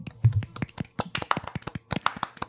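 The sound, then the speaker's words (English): A few hosts clap their hands in brief applause, a quick scatter of sharp overlapping claps lasting a couple of seconds with no talking. “Guys, let's all give them a little round of applause.”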